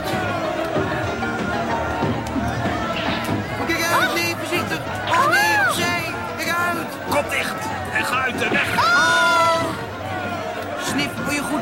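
Outside a palace, a dense, chaotic crowd babbles and shouts continuously while animals being trampled underfoot cry out, sharp meows or squeals rising repeatedly above the din, all loud.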